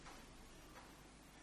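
A quiet clock ticks at a slow, steady pace, its faint clicks set against a constant hiss of background noise, with no voices.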